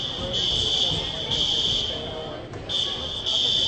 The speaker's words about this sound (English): Still waiting on this fire alarm that you can hear in the background.